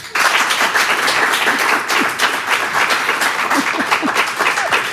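Loud, sustained applause from a large audience welcoming a guest author, dense overlapping claps filling the whole stretch at steady intensity with no voices standing out.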